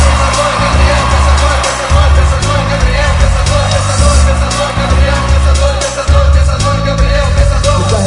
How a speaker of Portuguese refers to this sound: Então fui comemorar. A multidão me viu e começou a festejar.